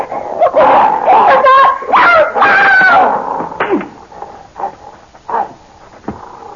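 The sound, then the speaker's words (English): A male dog, Muerte, barks and yelps in a loud, rapid flurry of excited calls, then trails off into a few fainter, scattered barks. “Heel, boy, heel. Good dog. That's a fine dog.”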